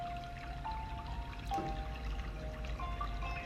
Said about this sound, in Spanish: Justo debajo de esa fuente cae agua, mucha agua, cristalina, con una temperatura fresca. No te produce ni frío ni calor.